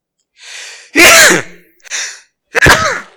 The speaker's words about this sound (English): Never sneeze in a microphone. Y'all should have heard it up here, right back in my ears.